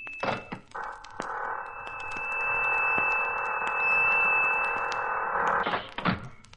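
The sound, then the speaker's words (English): A spaceship hatch's closing mechanism runs with a steady, buzzing mechanical whir for several seconds, dotted with small clicks, then shuts with a solid thunk near the end. No one speaks. “Start the closing mechanism quickly.”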